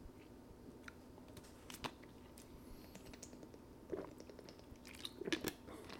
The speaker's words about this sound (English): After another sip of water.